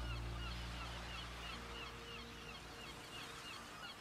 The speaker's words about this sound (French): C'est une superbe mouette, ce magnifique oiseau blanc aux grandes ailes qui vit près de la mer.